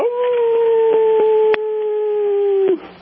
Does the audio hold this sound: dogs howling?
yes